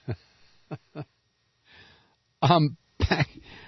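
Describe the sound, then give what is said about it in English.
A person coughs in a coughing spasm, in short bursts: three quick, lighter coughs followed by a soft breathy wheeze and then two louder, harsher coughs, with no talking. “I apologize for the coughing there.”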